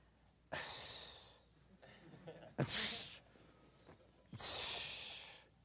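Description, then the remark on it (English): Three sharp, breathy hisses made by a voice in disgust, like a scornful "psst" or "shh", each lasting about a second with short quiet gaps between them; the first and last are longest. “It's a noise that you just make in disgust. Like, psh.”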